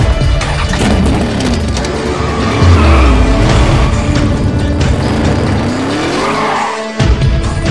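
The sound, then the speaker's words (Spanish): Loud, roaring car engines rev and accelerate continuously as the cars speed away, raising a cloud of dust, with tires squealing and skidding, a dense racing din lasting the whole stretch. “Los carros salieron a toda velocidad, dejando una polvareda en la que solo se escuchaban el rugir de los motores.”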